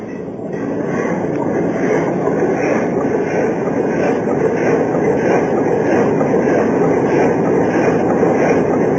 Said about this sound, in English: Try the engine. There, Chief. Yes, sir. We'll try the engine. Ready, Chief? Yes, sir. Full steam astern.